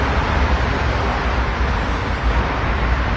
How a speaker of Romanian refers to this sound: Pasărea stă pe degetul său arătător și agită capul în stânga și în dreapta, surprinsă de zgomotul produs de traficul intens.